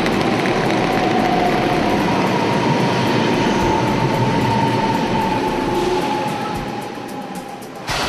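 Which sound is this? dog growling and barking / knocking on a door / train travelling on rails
train travelling on rails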